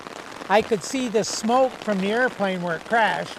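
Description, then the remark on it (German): Heavy rain pours down in a steady, hissing wash at Volkartshain, with a voice talking continuously over it, recounting a plane crash there about 55 years earlier. “Er kehrt jetzt nach rund 55 Jahren zum ersten Mal hierher zurück und erzählt bei strömendem Regen.”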